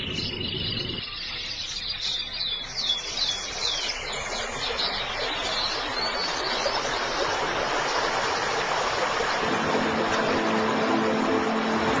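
Steady rushing water pours continuously from a small waterfall where dippers build their nest, its broad hiss filling the scene, while high bird chirps flicker above it early on.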